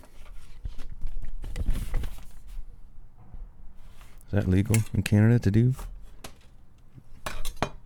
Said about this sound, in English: Hey, somebody put a empty pack of smokes in the mail slot here. I'm just going to push that to the side. I'm going to slide my envelope through.